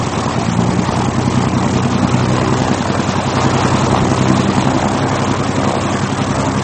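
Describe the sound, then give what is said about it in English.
The engine of a single-engine, nine-seater C-64 Norseman propeller plane drones steadily and loudly throughout, a thick, unbroken hum with a low throbbing pulse and no voices over it. “The plane was a single-engine, nine-seater C-64 Norseman.”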